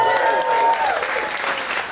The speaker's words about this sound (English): Yeah, I don't need your claps.